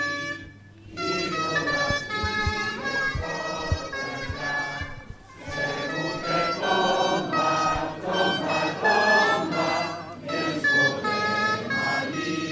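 Loud, bright gralla (Catalan shawm) players play a continuous melody together at a rally in the squares in front of the town halls of Móra d'Ebre, Gandesa and Falset, their nasal reedy tones buzzing and shrill, with occasional low drum thumps underneath and a brief pause near the start.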